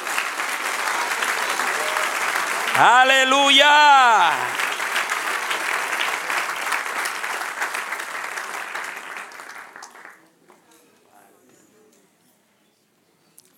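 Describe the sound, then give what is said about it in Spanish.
An audience claps in loud, sustained applause for about ten seconds, applause given to "the one who lives", while a single voice shouts an exclamation over it; the clapping then dies away into near silence. “Dele un aplauso al que vive.”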